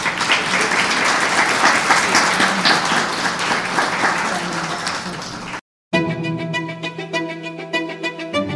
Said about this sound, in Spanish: Queremos hacerle en ese momento la entrega al doctor Germán Blanco, para que por favor suba y nos acompañe. Un aplauso para él.